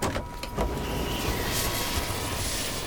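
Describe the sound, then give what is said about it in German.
A helicopter setting down, its steady rushing engine and rotor roar filling the scene, with a few choppy pulses at the start before settling into a loud, continuous whoosh. “war neben dem Helikopter hinabgeschwebt, zog ihre Flügel ein und stand nun lächelnd mitten auf der Straße”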